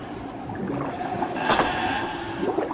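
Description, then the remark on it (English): Underwater air bubbles from a male walrus's air-filled neck sacs seep out of its mouth and nose in a steady, murky gurgle, swelling into a brief louder burst midway, with no voices. “Air bubbles seep out from his mouth and nose.”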